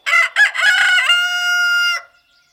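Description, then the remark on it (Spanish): A rooster crows once, loud, a full cock-a-doodle-doo with choppy opening notes ending in a long, drawn-out high call that cuts off sharply. “Para nosotros, los humanos medio dormidos, parece que todos cantan al mismo tiempo, pero resulta que el primero en cantar no solo es madrugador, es el jefe.”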